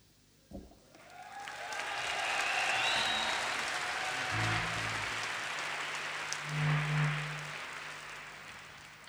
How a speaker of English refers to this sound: But we did get a couple of seconds of applause there.